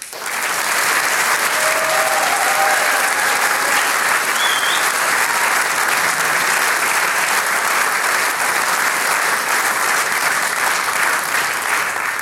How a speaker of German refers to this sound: Ein herzliches Danke und einen großen Applaus für euch, liebe Sänger und Musikanten.